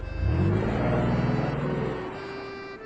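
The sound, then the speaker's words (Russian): A car engine rumbles, revving up briefly with rising harmonic tones before settling and fading as the car pulls in and slows to a stop. “Оказывается, шеф Фридриха, находясь в деловой поездке, встретился с молодоженами и пригласил их остаток пути поехать на его машине. И вот они приехали.”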